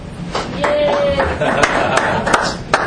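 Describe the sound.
An audience applauds in a steady wash of clapping, with a few sharper claps standing out and voices cheering and calling over it.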